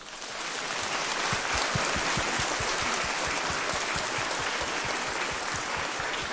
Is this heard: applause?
yes